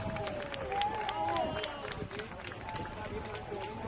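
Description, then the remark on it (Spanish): A crowd applauding steadily, a dense wash of many hands clapping at once, with voices calling and cheering over it throughout. The applause is for firefighters after they rescued two people, a father and a daughter, from the seventh floor during a fire. “Son los aplausos que reciben los bomberos tras rescatar en la séptima planta a 2 personas, un padre y una hija, en un rescate de película.”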